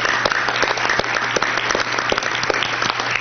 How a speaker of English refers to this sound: It's been very entertaining and big round of applause for all of our teachers.